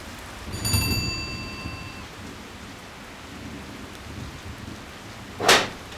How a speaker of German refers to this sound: Es regnet. Du bist schon ganz nass.